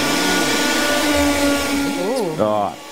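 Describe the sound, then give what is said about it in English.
A Karcher vacuum cleaner sucks with a loud, steady roar and a humming whine. Near the end the whine wobbles up and down in pitch and briefly surges before settling. “We've added a bit of suction power to the show today because yesterday I didn't feel like we were getting across the idea that the Karcher can suck.”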